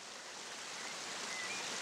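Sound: river water flowing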